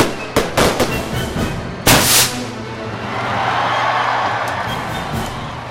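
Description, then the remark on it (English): Fireworks burst in a rapid cluster of sharp cracks, followed by a big loud boom around two seconds in, then a long rumbling, crackling tail fading into outdoor ambience. “I think part of it to me, part of what they enjoy, and part of the mystery of fireworks is seeing it appear seemingly out of nowhere.”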